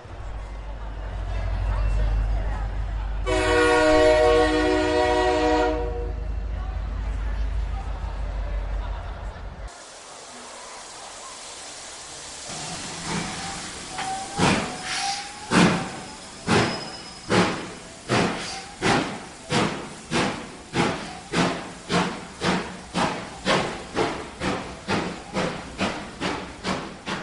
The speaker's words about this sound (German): Der Hogwarts Express fährt nun vom Gleis 9 4 Drittel ab. Alle Schülerinnen und Schüler werden freundlich daran erinnert, ihre Fahrkarten bereitzuhalten und unverzüglich einzusteigen. All aboard!